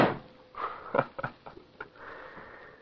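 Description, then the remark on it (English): A door slams shut with one loud, sharp bang that quickly fades, followed by several short, softer knocks and rustling sounds. No one speaks. “Oh, I hope he forgets my wrist as quickly as he forgot that resolution about the door.”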